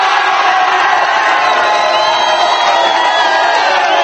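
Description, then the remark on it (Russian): A large crowd cheers and shouts continuously, a dense roar of many voices with higher whoops rising above it, loud and sustained without a break, greeting rescued miners brought up from underground in Chile. “Так приветствовали спасенных шахтеров.”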